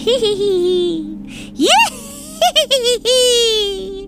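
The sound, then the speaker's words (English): A voice imitates a witch's cackle: high, wavering, nasal laughter in sustained drawn-out bursts, broken by a sharp rising whoop and a few quick choppy cackles before one final long quavering laugh. “Oh, God, I'm doing my witch cackle.”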